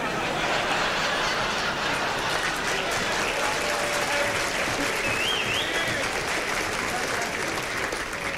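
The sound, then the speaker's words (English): Loud, sustained applause from an audience after a joke about Dean Martin fills the whole stretch, a dense steady clatter of many hands with a few scattered whistles and chuckles mixed in. “I'm not too sure whether you applauded for Dean or we should stone some more embassies.”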